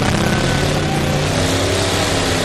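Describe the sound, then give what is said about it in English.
A loud, steady engine roars, strained and droning with harmonic whine throughout, as an off-road vehicle is revved hard with its wheels spinning and kicking up dust during a competition run. “The engine's revved up and those wheels are really spinning.”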